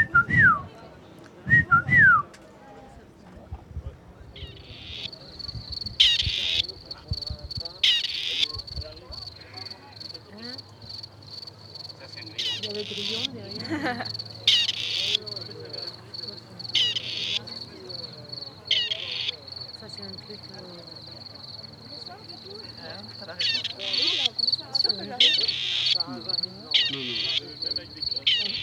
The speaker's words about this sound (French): Ce qu'on entend, c'est la perdrix grise qui... Et oui, qui habite dans les terres cultivées ouvertes, les friches, les prairies, qui est sédentaire, égrégaire et terrestre.